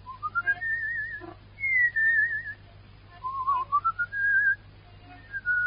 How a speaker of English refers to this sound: You know, people fall asleep if you whistle that way.